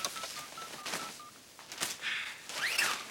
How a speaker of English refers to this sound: She steps to the phone and speed dials.